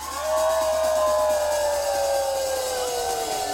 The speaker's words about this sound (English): we're gonna howl at them as loud and long as we can on the count of three. 1, 2, 3.